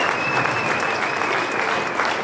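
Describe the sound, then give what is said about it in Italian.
A crowd gives a long standing ovation, many hands clapping steadily and loudly in a dense, even wash that never lets up, with a faint thin high tone underneath. The applause greets a secret-ballot result in which Valérie Favre-Accola won 170 votes to become the UDC party's candidate for government. “Un risultato accolto da un lungo applauso e da una standing ovation.”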